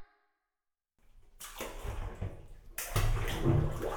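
Water sloshes and splashes as someone lowers into a bubble bath full of fine, silky foam, starting after a brief silence and swelling into a fuller, louder surge of moving water.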